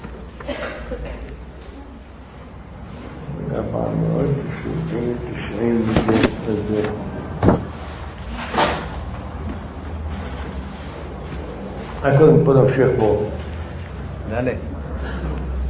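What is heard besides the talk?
door opening or closing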